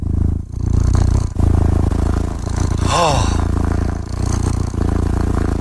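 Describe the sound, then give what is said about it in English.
A cat purr played from the website purrli.com: a loud, continuous low rumble with a rapid, steady pulse, almost engine-like. It runs unbroken throughout, with a brief voiced sound cutting in about midway. “It only does one thing, and that's play the sound of a cat purring.”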